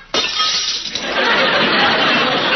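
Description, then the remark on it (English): Glass breaks with a sudden sharp crash, then a bright, sustained shower of tinkling, scattering shards that stays loud for a couple of seconds. No voices. “Well, I can usually break a glass by singing.”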